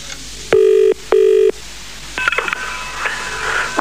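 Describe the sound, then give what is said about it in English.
A telephone call is dialed to a woman's number and rings in a double burst, two loud buzzing tones back to back, followed by a fainter warbling, crackly line tone as the call connects. “and she should be answering the phone any second now.”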